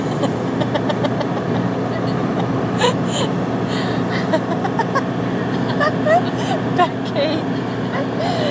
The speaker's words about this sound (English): So the fun bus has just turned up, so I'll be off and I'll carry on with this boo later. We're saying we're all in the fun bus now.